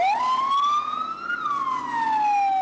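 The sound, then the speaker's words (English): A loud fire truck siren wails as fire trucks head out from a fire station, its tone climbing and then sliding steadily lower, with a low engine rumble underneath and no talking. “Oh yeah, here they come. Sliding down fire poles from different rooms down into the same fire trucks.”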